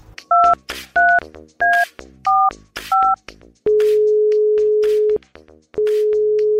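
A phone number is dialed with five quick keypad beeps, each a bright two-tone chirp, followed by two long, steady, lower ringing tones separated by a short pause. No one speaks.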